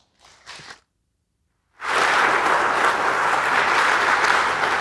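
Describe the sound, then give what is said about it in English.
After a brief faint voice and a pause, loud sustained applause from a large audience breaks out for a talk on deploying a LoRaWAN network and continues steadily, a dense wash of many hands clapping at once. “And now, can you give a big round of applause to”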